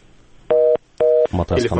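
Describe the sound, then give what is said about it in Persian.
Two clear telephone ring tones sound in quick succession, each a steady quarter-second burst with a short gap between, as a listener's call comes through on a Radio Azadi call-in programme, followed by a voice beginning to speak. “بریم به شنونده ها از طریق تلفن چون وقت کم داریم با در این برنامه.”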